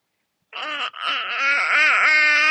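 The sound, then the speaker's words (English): A baby cries in a loud, high-pitched wail that starts suddenly, breaks briefly, then continues as a sustained, wavering sob with rising and falling pitch, with no talking over it. “I don't know if you guys can hear that, but my whole heart.”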